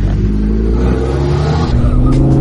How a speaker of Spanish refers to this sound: Amigo, es impresionante la potencia que tiene este auto y el ruido que hace. Es muy bueno.